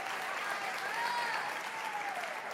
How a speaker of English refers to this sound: And so if you guys would, give Isla a round of applause, invite her on to the stage.